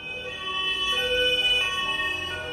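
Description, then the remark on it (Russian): An ambulance siren wails steadily and fairly loud, its tones holding and shifting slightly over a low rumble of street noise, with no one talking; the ambulance has pulled up at the regional Ministry of Health building in Omsk, Russia, and switched on its siren. “Тогда скорая приехала к зданию регионального Минздрава и включила сирену.”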